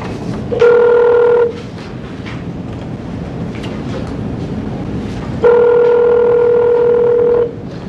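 A telephone ringback tone sounds twice as a phone call is placed into an Arizona parole hearing to reach a parole officer: a short steady ring, a pause filled with low background noise, then a longer ring. Each ring is loud, with no talking.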